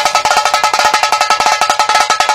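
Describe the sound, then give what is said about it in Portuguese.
A car sound system wall (paredão) is tested at Duarte Som Automotivo, starting with the midrange speakers, which blast a loud, fast, steady run of bright metallic cowbell-like hits, punchy and piercing with little bass, and no one talking. “Na Duarte Som Automotivo, a gente testa o paredão assim, ó. Primeiro, os médios.”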